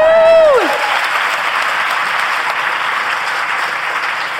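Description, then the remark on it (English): An audience applauds steadily for several seconds, a dense, even wash of clapping that holds its loudness throughout, opening with a brief high whoop that slides downward in pitch. “And if you guys don't applaud too much, we may have time for a few questions at the end.”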